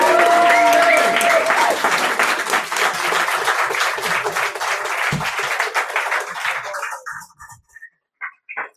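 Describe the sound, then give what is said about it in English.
A crowd applauds loudly with dense, steady clapping and a few whoops and cheers early on, then the applause thins and fades out into scattered claps near the end. “So if you can give her a big cheer, thank you so much.”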